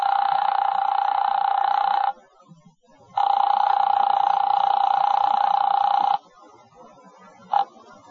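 A telephone rings in two long, steady electronic bursts separated by a short pause, followed by a brief clipped blip of a third ring as a call is placed; clear, with no one speaking.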